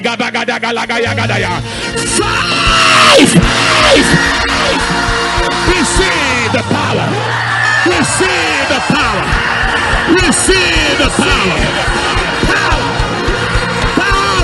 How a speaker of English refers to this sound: Are you ready for power? At the count of five, you place your hand on your head and scream power with just one turnaround.